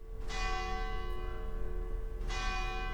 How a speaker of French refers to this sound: J'attendais la cloche des vêpres.